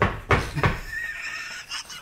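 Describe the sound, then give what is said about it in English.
A voice makes a mouth-made fart noise: two short, sharp bursts followed by a longer, buzzy, wavering raspberry, loud and alone with no talking. “Sorry, I fart when I'm nervous.”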